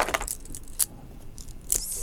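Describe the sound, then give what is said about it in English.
Keys jangle in a few bright, metallic bursts, shaken unevenly with short pauses between the clinks. “Want some keys?”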